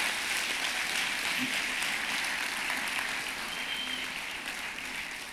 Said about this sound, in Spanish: Si crees eso, aplaude al Señor por eso.